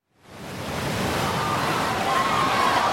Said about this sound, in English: They can hear the noise of the volcano, and enormous waves are moving through the sea.